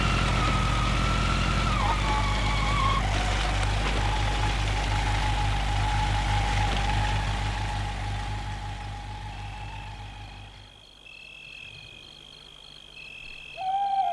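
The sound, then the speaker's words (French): A scooter engine drones loudly, its pitch dropping as it slows to an idle as it is stopped at the roadside, then cuts out after about ten seconds, leaving quieter background sounds. “Il va arrêter son scooter au bord de la route.”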